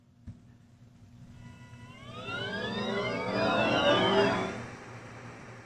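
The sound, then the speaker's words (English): A Volkswagen electric car's pedestrian warning sound, a synthetic harmonic hum that swells in gradually, its layered tones gliding up and down before peaking loudly and easing off slightly, with no talking. “Here's what it's going to sound like if you're running a Volkswagen electric car”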